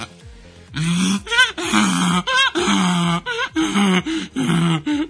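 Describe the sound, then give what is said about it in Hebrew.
A person imitates a donkey's bray with a loud, rhythmic run of strained hee-haw cries, alternating between a rough inhaled wheeze and a lower groaning honk, about eight times in a row. “זה נשמע, כן, חמור.”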